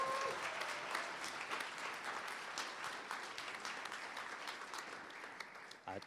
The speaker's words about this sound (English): So round of applause for